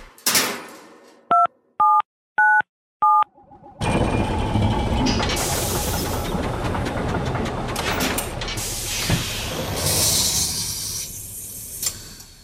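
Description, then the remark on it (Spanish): Four short electronic beeps from the keypad of a time machine, each a steady two-tone chirp at mid-high pitch, evenly spaced, followed by a loud, sustained rumbling and hissing wash of noise with clattering bursts. “Jesús Callejo, como siempre, tengo aquí el teclado de nuestra máquina del tiempo.”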